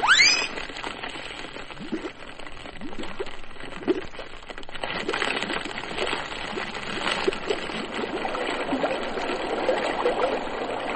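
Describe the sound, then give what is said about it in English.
Steady rushing and trickling river water flows continuously, with a brief splash or gurgle at the start and a fuller, louder surge building through the second half. “River, river, outward flow, or Drake's tail to his death must go.”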